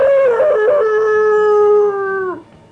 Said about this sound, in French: cria le chien derrière lui.